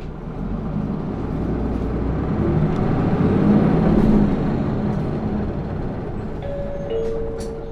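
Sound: bus pulling away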